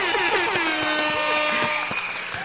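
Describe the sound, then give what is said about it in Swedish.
A loud, sustained horn sound effect blares through the whole moment, its brassy tone wavering slightly, while scattered sharp claps of applause patter underneath. “Vi kör en applåd och en tuta på det.”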